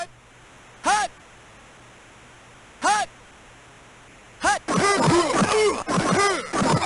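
A steady, hissy crowd roar built from white noise for the John Madden NFL video game franchise runs throughout, punctuated by three brief loud swells, then overlapping voices chatter over the hiss for the final few seconds.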